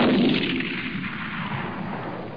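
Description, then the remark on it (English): A single loud rifle shot, fired at a lion and killing it with a headshot, cracks out at once, its booming report rolling away into a long, slowly fading rumble with no voices. “Headshot, lion killed. Marius even dropped the rifle.”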